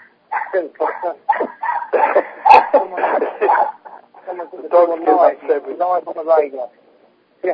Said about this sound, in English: Sorry, these dogs sing.